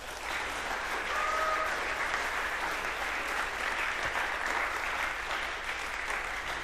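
An audience applauds the VOG team steadily, a dense wash of clapping that holds at an even, fairly loud level throughout with no speech over it.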